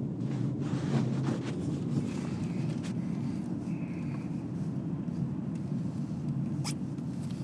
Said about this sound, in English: That, what you've just been listening to, is the first example of controlling the conditions. I had to take a reading in order to check for ambient noise within the vehicle.